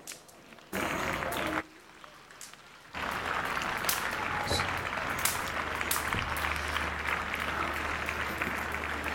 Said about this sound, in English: Your clapping is funny to me, like you're clapping in the village. Step it up. Step it up.